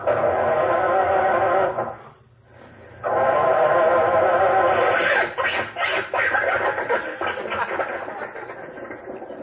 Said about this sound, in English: Gee, the motor seems to be laboring a little harder than usual. Jack, it's February. Oh, yes. Try it again, Rochester.